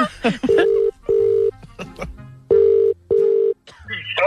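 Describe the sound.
An outgoing call's ringback tone, on a call placed to a cattle seller to buy a bullock, sounds in two steady double-rings, a pair of short buzzing tones, a pause, then another pair. Faint voices and background sounds fill the gaps between rings.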